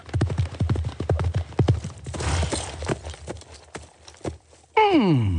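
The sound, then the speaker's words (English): Horse hooves clip-clop in a steady walking rhythm as a horse is ridden, fairly loud, before a loud descending horse whinny ends the sequence. “One day, a prince who was out riding his horse happened to pass the palace.”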